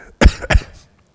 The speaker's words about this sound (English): Whenever you need to cough, you can.